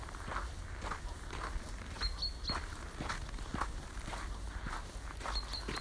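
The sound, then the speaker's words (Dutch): A few faint, brief high chirps from small birds, coming in two short bursts over steady, rhythmic footsteps crunching along. “Vogeltjes.”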